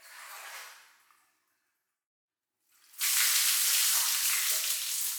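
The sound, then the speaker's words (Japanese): Hot water is poured to rinse off soap foam: a softer splashing pour fades out, a brief silence follows, then a loud, steady rushing stream of water takes over and continues to the end. “じゃあ一気に流してさっぱりしちゃいましょう。はい、お湯をかけますからね。”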